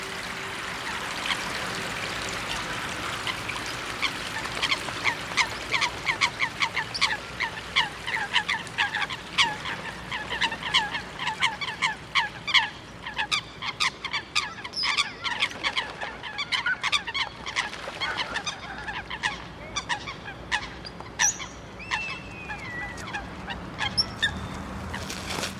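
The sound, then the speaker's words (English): Dozens of ducks call continuously on marshland water at a city beach in the evening, their quacks and honks overlapping in dense, rapid bursts, lively, over a soft watery background hiss with no voices. “Here we are, at the city beach in the evening again, dozens of ducks resting”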